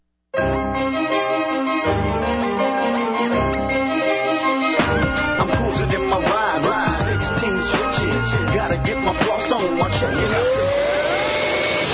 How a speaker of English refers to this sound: Hoover Wind Tunnel 2 Upright vacuums your carpets.